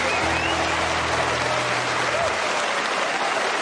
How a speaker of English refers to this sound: Susan Calman. Round of applause. Susan Calman.